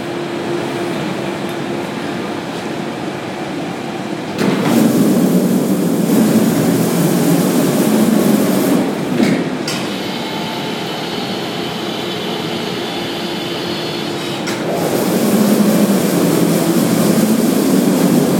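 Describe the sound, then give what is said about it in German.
A steady mechanical drone as a coffin on a lift platform slowly rises at a crematorium in Dachsenhausen, then louder roaring surges as the furnace door opens, with clanking shifts between stages. No one speaks. “Ein Sarg steht wie auf einer Art Hebebühne, die jetzt langsam hochgefahren wird und wir dürfen tatsächlich an der Übergabe eines Sarges teilnehmen.”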